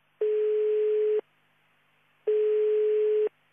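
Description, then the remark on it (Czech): A telephone ringback tone sounds as two steady one-second beeps separated by a pause of about a second, clear and fairly loud, with no voices, as a call to a private company from Laktaši, on the number listed on its Facebook page, goes unanswered. “Korisnik ne odgovara na poziv.”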